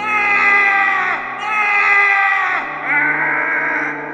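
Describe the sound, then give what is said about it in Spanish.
A monstrous creature, tied up and trying to move, screams in three long, strained, wavering cries, one right after another, loud, each howl sliding down in pitch as it fades. “aparecía de nuevo Frankenstein, intentando moverse, pero estaba atado. Gritaba.”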